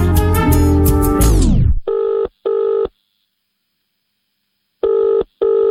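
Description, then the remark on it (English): A bright, busy burst of sound fades away, then a telephone rings for an incoming call in a steady, buzzing double pattern: two quick rings, a pause, then two more. “Shall we take a call?”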